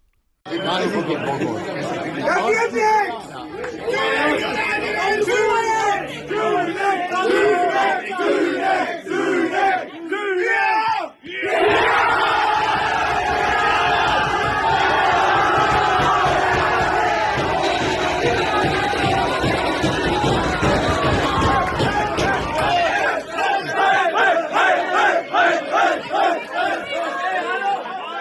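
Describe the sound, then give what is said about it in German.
A loud crowd in Münsterland erupts in cheers and excited shouting after a goalkeeper saves the decisive penalty in a football penalty shootout, building to a sustained roar that gives way to rhythmic chanting and clapping toward the end. “Der entscheidende Elfmeter wurde pariert und der Jubel war groß.”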